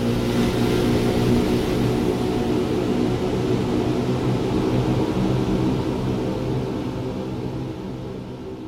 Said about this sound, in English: He sped up the boat.